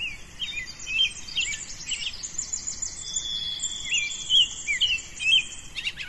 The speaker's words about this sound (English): Birds are just waking up. What time is it now? 6:16. A.M. Yep. Just starting to come alive in this last 5-6 minutes. Yep. I can't wait to get in there. We head off down the trail, and the birdsong just comes alive.